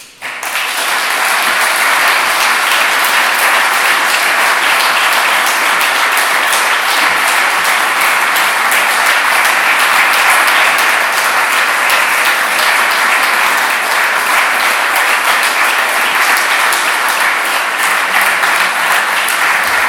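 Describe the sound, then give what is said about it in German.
Sustained, dense applause from a large audience after a lecture, at a steady, loud level for the full stretch, with no voices standing out above the clapping. “ein hochverdienter Applaus.”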